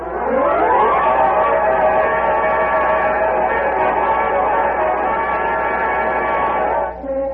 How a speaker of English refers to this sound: Come out in the street. Come on out in the street. What's happened? Look at the crowd. An accident? No, it isn't. There's something else.